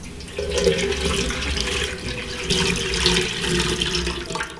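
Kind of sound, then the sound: household object, water poured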